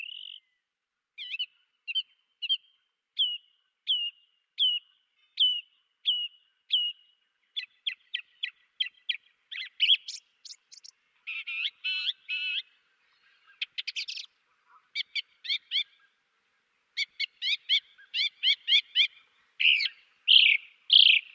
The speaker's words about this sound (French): Voilà une grive, c'est une grive musicienne enregistrée par Jean-Claude Roche.